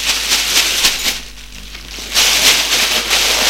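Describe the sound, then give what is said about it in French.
Crinkly rustling of a plastic bag with sharp little crackles as a police officer places stolen objects and a card inside; it eases briefly mid-way, then grows louder again, with no voices. “Il prend les objets volés et la carte, met dans un sac plastique, étant policier.”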